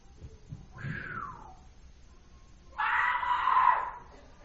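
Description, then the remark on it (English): A voice imitates a woman screaming 'Mama!' in two loud, high wails: a short falling cry, then after a pause a longer, sustained shriek, with no other talk. “Mama! I mean, she screamed, Mama.”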